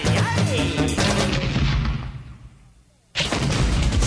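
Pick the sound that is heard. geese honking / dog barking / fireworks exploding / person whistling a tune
fireworks exploding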